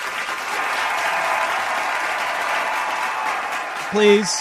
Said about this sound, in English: Wow. That's more accurate. Not much of an applause.